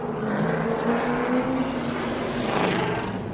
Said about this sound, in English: The race car picks up speed and pulls away as it enters the Speedway's far turn. It's a practice run for the driver of the number 22 car here at Motor Mile Speedway in Radford, Virginia, where cars post speeds of more than 100 miles an hour.